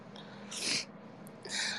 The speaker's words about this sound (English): sorry. Sorry about the sniffles.